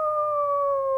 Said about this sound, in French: C'est le chant des loups.